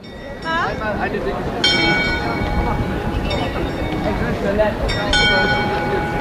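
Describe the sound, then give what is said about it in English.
The ornate astronomical clock in Prague's Old Town Square chimes several times at 7 p.m. at a slow, steady pace, each ringing strike lingering, over the constant murmur of a large outdoor crowd gathered to watch it. “in Prague, and the crowds are gathered in the old town square to witness the city's biggest attraction, the chiming of its ornate astrological clock.”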